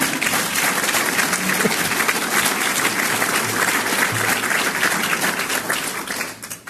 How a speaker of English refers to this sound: Now you can applaud.